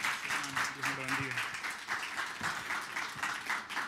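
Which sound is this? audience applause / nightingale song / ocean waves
audience applause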